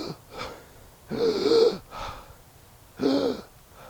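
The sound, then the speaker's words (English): A voice imitates the final breaths of Jesus on the cross: two long, strained, rasping gasps with fainter breaths around them, fairly loud and carrying no speech. “he breathes his last”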